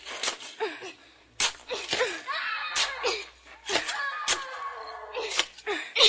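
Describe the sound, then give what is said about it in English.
A shovel digs into dirt in quick, repeated strokes, each a sharp scraping crunch, fairly loud, with excited vocal sounds and effortful noises running between them. “And you gotta dig fast, like this.”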